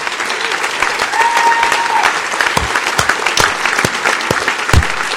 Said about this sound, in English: Thank you all. Applaud yourselves.